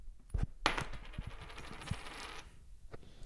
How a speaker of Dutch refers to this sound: Nou ja, dan gaan we kop of munt. Hier komt ie.